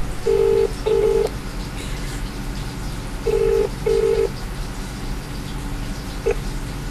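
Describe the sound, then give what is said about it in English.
A phone call to an insurance contact ringing out unanswered with the double-burst ringback tone, two pairs of buzzing rings a few seconds apart, then a brief start of another, over a steady low background hum. “Trying in for the insurance, K again. No answer the phone.”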